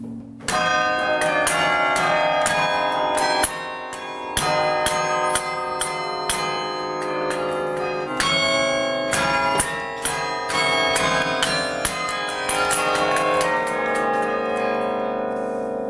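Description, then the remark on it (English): Automatic carillon tower bells ring continuously in a steady, overlapping pattern of bright, resonant strikes, loud and reverberant with a sustained hum beneath, carrying on without any voices. “And in about a minute, we'll have the automatic. I usually let that die away a bit.”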